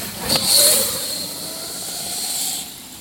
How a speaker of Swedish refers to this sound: nu kommer den här motorcykeln igen. Nu står vi nog i vägen. Kommer att blåsa förbi och så här. Andra gången han kör här nu förbi.